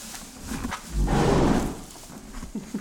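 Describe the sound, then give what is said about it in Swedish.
A horse resting in a stable gives one long, breathy snort, a rough rushing blow lasting about half a second, with soft shuffling and low thuds before and after, on a still, muggy day. “Det låter som en nöjd häst.”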